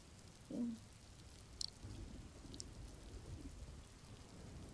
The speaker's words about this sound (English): And all this fucking rain is just making this harder.